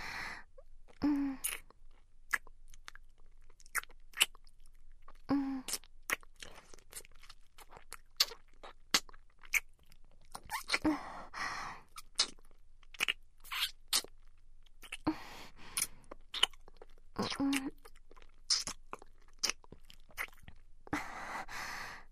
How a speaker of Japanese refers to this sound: キスもいいですよね。フェラほどにむしゃぶりつかず、お互いの吐息を確かめ合う。キス。